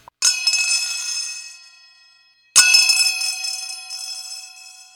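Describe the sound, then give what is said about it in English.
Small brass cymbals called chapa are struck twice, each hit bursting into a bright, metallic shimmer with a rough buzzing edge that rings on and slowly fades. No voices. “Buzzing sounds.”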